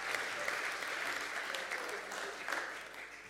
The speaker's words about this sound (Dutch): Wauw, come on, laten we deze mensen nogmaals applaus geven. Prijs de Heer.